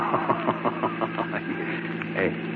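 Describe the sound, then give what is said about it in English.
A heavy armored car's engine chugs in quick, regular pulses over a steady low hum, moderately loud, as the armored car pulls away. “Hey, the armored car is pulling away now, Fallon.”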